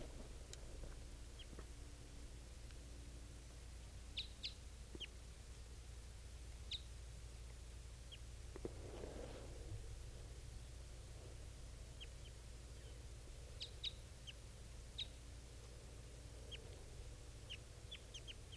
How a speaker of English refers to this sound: Both of those birds are calling it. Wild.